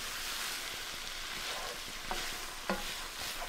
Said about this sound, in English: Now stir all that together and fry for a further 2 minutes until that turkey is golden brown.